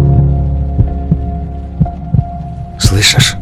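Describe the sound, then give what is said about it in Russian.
A heartbeat thumps in soft, low double beats over a steady droning hum, repeating at an even pace, followed at the end by a short breathy hiss. “приложи руку к груди.”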